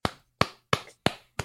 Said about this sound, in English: I'm clapping. I hope you guys hear that. I'm clapping.